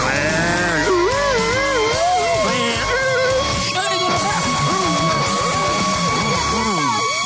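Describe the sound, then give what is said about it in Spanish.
Several voices imitate a police patrol car siren as a sound effect for the Radioactiva radio station's patrol, with loud, overlapping wavering wails that rise and fall continuously, along with a steady high tone running throughout. “Pendiente a la patrulla radioactiva que estará rondando por las calles de la ciudad. Efecto de patrulla.”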